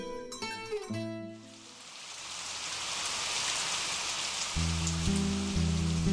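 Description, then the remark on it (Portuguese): Steady rain pours down in a dense, even hiss that swells in after a brief musical phrase and keeps falling as the music returns near the end. “Todos os anos, os sertanejos esperam a chuva, na esperança que ela enche os açudes, molhe a terra que vai receber as sementes e transborde as cisternas para o abastecimento das famílias, garantindo o uso da água por parte do ano.”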